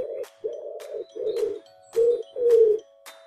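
A pigeon coos in a steady series of five or six soft, low, throaty hoots, each about half a second long with short pauses between, and no voices.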